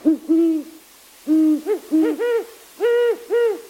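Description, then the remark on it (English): A huge owl with pointy, ear-like tufts gives a series of soft, mellow hoots at night in short paired and triple phrases, clear, with brief pauses between groups and no other sounds around them. “At night, listen for these mellow hoots.”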